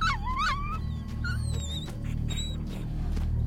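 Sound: dog yelping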